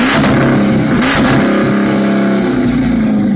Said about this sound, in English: My brother-in-law bought two kind of junked up '73 Dodge Challengers, and he's a motorhead, and he put them together and made this beautiful fucking car. It's a growl, like a. It's like a lion. Sounds so good, dude.